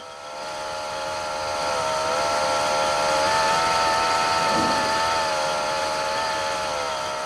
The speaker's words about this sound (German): Bei unserem weiteren Gang durch die Anlage weist mich … auf einige Motoren hin, deren Klang sich je nach Arbeitsauslastung verändert.